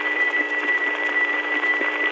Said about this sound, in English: On the originating register, it has more of a buzzy sound. But the same thing as heard through the supervision test ticking over a trunk from Trinity is more smoothed out. It has more of a sine wave sound.